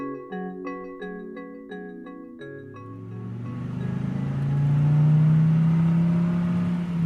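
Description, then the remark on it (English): A few short, evenly spaced musical notes give way to a car engine rising in pitch and loudness as it speeds along a road, its whooshing roar filling the final seconds with no talking. “On a road trip last week, I counted the number of different types of cars that whizzed by, responding to that human urge to tally the diversity around us.”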